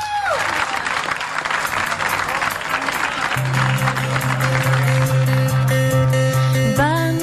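Loud, sustained applause from an audience, a dense crackle of clapping that continues as steady instrumental tones and a low droning note rise beneath it toward the end.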